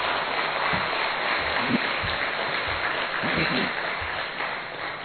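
Loud, sustained applause from an audience, a dense steady wash of many hands clapping with faint voices mixed in underneath.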